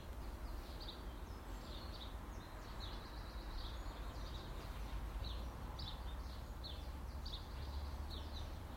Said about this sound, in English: It is a beautiful morning. It's this bird sound you would expect to hear in a summer's morning, a good summer's morning.